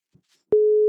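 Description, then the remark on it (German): A telephone ringback tone on a call: after a moment of near silence with faint ticks, a loud, steady mid-pitched electronic tone begins and holds unbroken to the end. “Es klingelt.”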